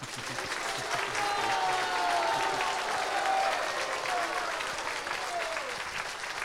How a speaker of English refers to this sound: And those of you who are from here, you can applaud that. И жители, те из вас, кто живут здесь, в Санкт-Петербурге, могут поаплодировать.